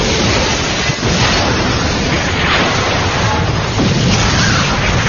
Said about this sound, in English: And then, without warning, a gout of flame belched from the Hercules' open hatchway as the entire vessel shook. Then, the hull split open lengthwise as the craft disappeared in a blinding explosion.